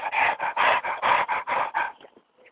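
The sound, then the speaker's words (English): A dog pants hard and fast while running beside a woman, a steady run of about eight loud, breathy gasps that taper off into softer breaths at the end. No one speaks. “Dog was panting.”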